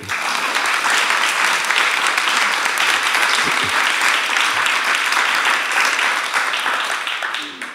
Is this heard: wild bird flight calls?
no